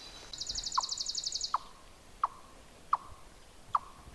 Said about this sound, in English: That strange sound is not a bird. And a lot of people will recognize that. It's a chipmunk. This one happens to be an eastern chipmunk.